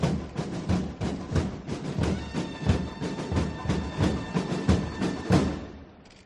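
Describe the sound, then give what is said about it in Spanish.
A crowd of people of Málaga applauds steadily as the Legionnaires arrive in a church square for the procession of the Cristo de la Buena Muerte image, a dense wash of many hands clapping at once with sharper bursts rising through it, holding fairly loud for about six seconds before tapering off at the end. “Cómo no, los aplausos del pueblo malagueño a la llegada de los legionarios.”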